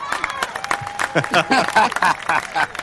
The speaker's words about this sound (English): That's a fake crowd, just by the way, because we're all about authenticity here. That's on YouTube. What do you mean fake crowd? It's a mean fake stadium crowd sound effect.